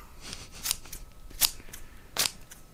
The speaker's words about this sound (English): It's cutting origami? Paper. It's scissors cutting paper.